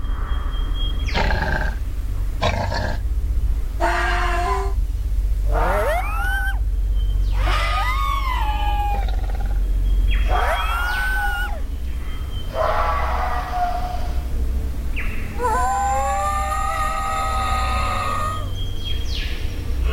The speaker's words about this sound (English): and hear the sounds of the Tasmanian tiger, recorded in captivity almost 100 years ago.